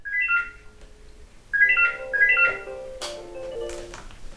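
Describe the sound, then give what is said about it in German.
A telephone at a church telephone counselling service office in Berlin rings with an electronic warbling tone in repeated bursts, clear, followed by a brief clatter as if the receiver is picked up. “Ununterbrochen klingelt das Telefon.”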